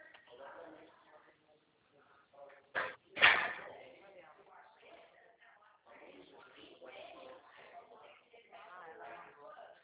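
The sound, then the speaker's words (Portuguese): A door is pushed shut with two sharp thuds, the second louder, while people talk quietly before and after. “A porta não bateu, fecha a porta. Fecha a porta para ela não bater.”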